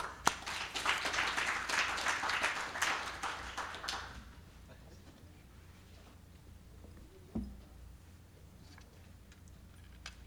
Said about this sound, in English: Let's have a nice round of applause for